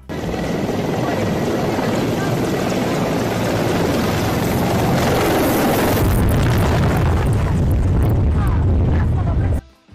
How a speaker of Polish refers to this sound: A zaczniemy od nagrania, które może zmrozić krew w żyłach. Dziennikarka, która została zaskoczona przez wojskowe śmigłowce.